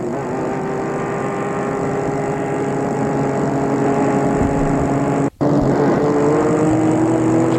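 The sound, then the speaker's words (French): A car engine hums steadily as the vehicle drives along, a loud continuous drone with a brief cut-out partway through before resuming, no voices. “Il a pris sa voiture.”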